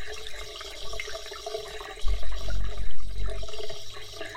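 shower water running

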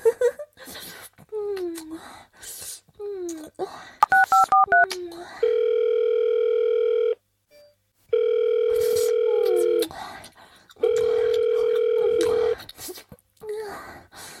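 telephone dial tone

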